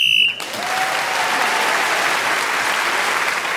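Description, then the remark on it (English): A single short, shrill whistle blast, blown while Clement Freud is speaking in a panel game, cuts off at once and gives way to a steady wash of clapping that carries on loudly to the end. “Clement Freud, speaking as the whistle went, has moved forward.”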